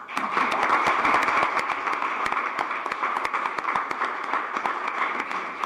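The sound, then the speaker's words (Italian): A crowd applauds steadily to thank the man whose artwork was given to the town, with many overlapping hand claps forming a dense, continuous patter that holds at an even, fairly loud level throughout, with no voices heard. “Noi lo ringraziamo e facciamo qui un altro applauso, per favore.”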